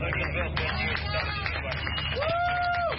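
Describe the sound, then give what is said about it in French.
A crowd at the port of Valencia claps steadily amid a murmur of overlapping voices as migrants disembark from a rescue ship chartered by SOS Méditerranée and Médecins sans frontières, with sharp irregular claps throughout and a brief whistle-like tone rising near the end. “Des applaudissements ont fusé alors que des migrants débarquaient du navire de secours affrété par SOS Méditerranée et Médecins sans frontières.”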